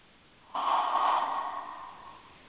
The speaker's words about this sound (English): And I'm actually going to add, because what I was feeling as I was taking in my last breath was ease and grace.